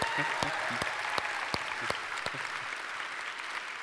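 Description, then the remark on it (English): A church audience applauds to welcome its Wyoming campus and its Nagpur, India campus: steady, dense clapping from many hands, with a few sharper individual claps standing out, sustained at an even moderate level throughout. “I'm going to ask you, as I often do, would you give it up for the other two campuses just by way of applause?”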